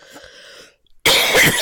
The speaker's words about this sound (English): The coughing is going to be the worst part.